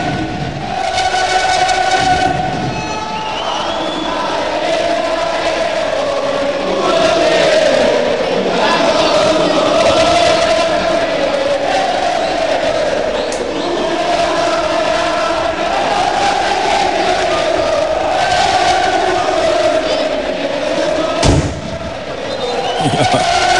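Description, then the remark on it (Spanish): A huge stadium crowd of green-and-white football fans sings their club anthem a cappella at the Colombino stadium, a loud, sustained mass of voices with no instruments, echoing throughout, with one sharp firecracker bang near the end. “Hemos podido escuchar a capela ese himno tan bonito que tiene la afición vecina nuestra, y qué bonito es poder escucharlo.”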